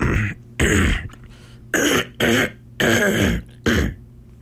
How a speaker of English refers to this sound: nice cough. No cough button in the control room.